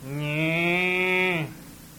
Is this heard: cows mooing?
yes